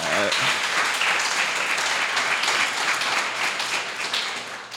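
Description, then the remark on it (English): A crowd applauds in a steady, dense wash of clapping that holds strong for several seconds, then begins to thin and fade slightly toward the end. “Give it up for Faseo, everybody.”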